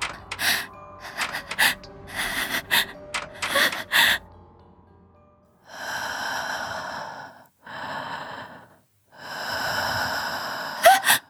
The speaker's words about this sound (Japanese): 心臓が一層跳ねた。すぐ近くから私のとは違う息遣いが聞こえる。すぐにその誰かが発している音だと分かった。